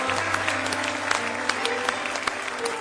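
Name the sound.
audience hand clapping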